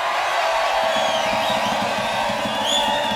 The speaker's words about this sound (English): Quite a crowd here, as you can hear.